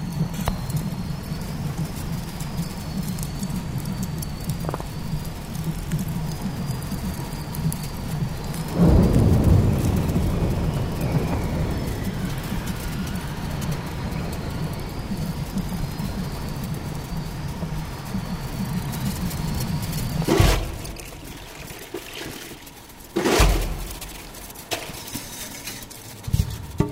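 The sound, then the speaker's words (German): A snowstorm over the Weddell Sea at minus 35 degrees roars in a dense, steady rumble of wind noise, swelling into a heavier surge partway through and then several sharp, loud gusts near the end. No voices. “Ich höre auf meinen Kopfhörern den Schneesturm, der gerade über dem Weddellmeer tobt.”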